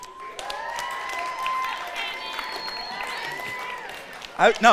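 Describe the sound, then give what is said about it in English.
An audience cheers with sustained, high-pitched whoops over a steady wash of applause after a man admits he likes to play video games, then a sudden louder burst of noise comes right at the end. “I'm in a moment of, like, sharing, like being vulnerable, and you guys aren't supposed to cheer that.”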